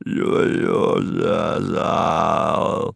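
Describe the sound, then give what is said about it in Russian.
A loud, strained groan from one man, drawn out for about three seconds with a wavering pitch and a couple of brief catches, acted out like a man choking as he dies, gasping convulsively for air. “Простонал он, бешено тараща налившиеся кровью глаза, несколько раз судорожно попытался набрать воздуха и вдруг затих, вперив в нее остекленевший взгляд.”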